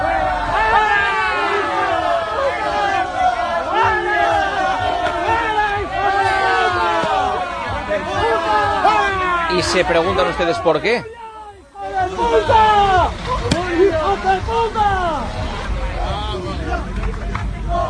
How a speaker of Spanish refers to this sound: Gritos de Zozulia, Zozulia, el futbolista que finalmente no ha jugado en el Rayo Vallecano. Algo que parece que le puede perseguir.